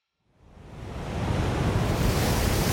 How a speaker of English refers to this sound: Gale force winds off the coast of England. Choppy waves, foam blowing in streaks across the water, and a small group of pirate ships that have been fighting to stay afloat and are about to lose.